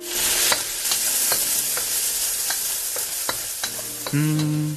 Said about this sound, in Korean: 물이 끓는 동안 프라이팬에 기름을 넉넉히 두르고 얇게 썬 마늘을 볶아.